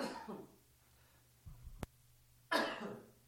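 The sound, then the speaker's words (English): Two sharp coughs with a low throat-clearing rumble and a brief click between them. No one speaks, and the second cough is the loudest. “Excuse me, that was my cough button.”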